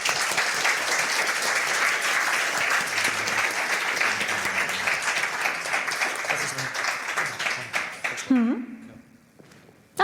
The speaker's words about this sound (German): Und auch dieses Jahr wieder finanzielle Unterstützung von der Fachschaft Informatik. Ganz herzlichen Dank und auch da großen Applaus bitte nochmal.